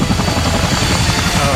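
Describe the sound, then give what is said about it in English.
A tandem-rotor helicopter thumps loudly as it lands, its blades beating in a fast, steady rhythm over a constant low engine roar, with no voices. “I think that's Sikorsky double rotor thing that was...”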